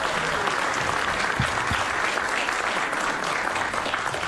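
Steady audience applause, a dense crackle of many hands clapping at an even loudness throughout, with no voices rising above it.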